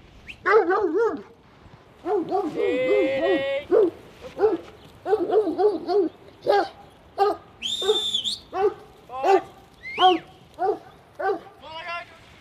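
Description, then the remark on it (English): Several farm dogs bark and yip excitedly in rapid, repeated bursts, mixed with a few high-pitched whines, continuing steadily throughout. The dogs are in the back of a ute on a farm, by a paddock holding a small mob of sheep. “Now, your dogs are raring to go. They're in the back of the ute right now, and one of them is staring at that small mob of sheep in the paddock.”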